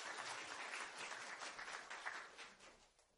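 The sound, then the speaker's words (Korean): A crowd applauds steadily for about three seconds at an Isaac Bible Graduate School graduation ceremony, congratulating a graduate receiving a diploma. Many hands clap in a dense, even patter that thins slightly toward the end. No one speaks over it. “모두 박수로 축하해 주시기 바랍니다.”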